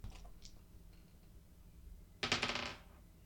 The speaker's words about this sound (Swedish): Men jag slår om. Nu ska vi se här. 5, 6, 7, 8. Ja, jag är 3 ifrån. Ja, jag slår om två tärningar.